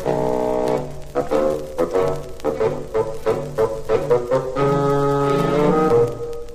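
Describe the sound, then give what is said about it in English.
A low bassoon, representing the old Grandpapa character, plays a lumbering melody, with short detached notes giving way to longer held tones, over soft orchestral accompaniment. “Grandpapa is an old bassoon.”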